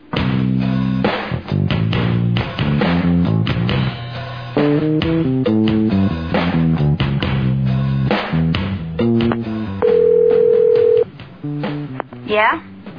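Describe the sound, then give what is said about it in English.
A cellular phone rings with a loud string of electronic beeping tones in quick bursts, ending with one longer sustained beep and a short warbling sweep. “am I the only one that owns a rotary cellular phone?”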